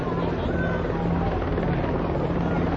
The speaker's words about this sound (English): We're marching around Vine, 13th Street in downtown Philadelphia. Helicopters, at least five or six helicopters.